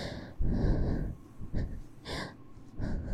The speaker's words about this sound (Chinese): 不要觉得害羞，现在弟弟的喘息对我来说，这世界上最好听的天籁。